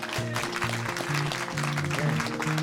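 audience clapping

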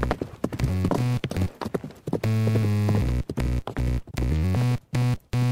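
horse hooves clip-clopping

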